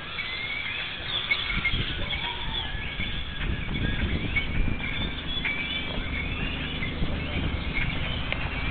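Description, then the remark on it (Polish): A dense flock of birds chirps and whistles continuously at sunset, many overlapping calls at once, over a low, steady rumble of traffic. “odgłosy ptaszy. Zawsze o zachodzie te ptaki zbierają mi taki odgłos.”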